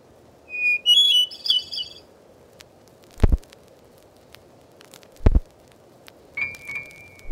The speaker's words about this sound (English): Here are the songs and calls of 60 familiar birds, as recorded in the woods, fields, and gardens of North America by the Laboratory of Ornithology at Cornell University. Unless otherwise stated, they were recorded in central New York State.